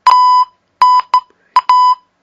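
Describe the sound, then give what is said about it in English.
A PenFriend device emits three quick, high, clean electronic beeps of uneven lengths, loud, with brief silent gaps between them and no talking, as its mode button is pressed a third time to switch to the MP3 setting. “If you then press the mode button a third time, you will hear 3 beeps.”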